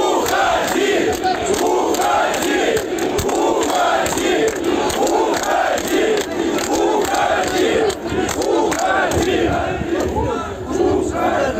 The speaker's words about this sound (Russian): Сам Лукашенко, выступивший сегодня перед рабочими Минского завода колесных тягачей, заявил, что не допустит повторных президентских выборов. Лукашенко был освистан присутствовавшими на митинге рабочими.